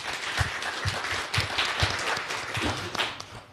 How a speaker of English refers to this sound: He'll be able to explain it a lot better than that, but I'd like you to give a round of applause to the two panelists.